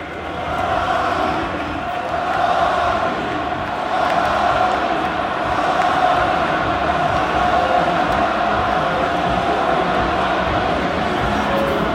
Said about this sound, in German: auf Bestellung quasi skandiert das Camp Nou Xavis Namen